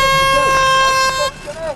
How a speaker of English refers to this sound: start swinging your arm of death and let fly your golf balls on the sound of the klaxon.